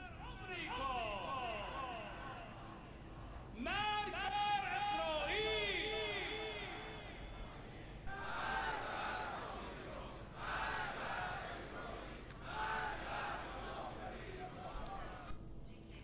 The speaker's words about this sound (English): Crowds of protesters are rallying to denounce the desecration of sanctities as well as acts of vandalism during the riots.